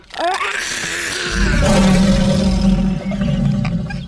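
A lion's deep, loud roar swells after a short rising growl and holds for a few seconds as a rough, rumbling bellow, with no talking.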